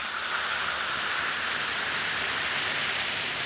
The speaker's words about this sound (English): Just drop a tablet or two of Alka-Seltzer into a glass of water and listen to it fizz.